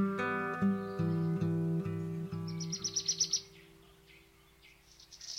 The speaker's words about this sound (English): Early Morning Ambience with Bird Sound Effects.